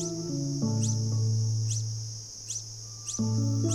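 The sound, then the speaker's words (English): A male long-billed hermit hummingbird, looking for a mate, gives four brief, high-pitched sweeping chirps at a steady pace as part of a courtship display in a forest, over a continuous high whine and low, sustained tonal music. “A long-billed hermit is warming up for a performance.”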